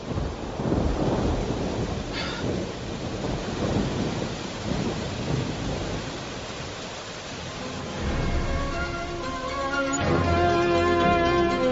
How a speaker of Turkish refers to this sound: Yağmur hızlandı. Bir an evvel otele gidelim.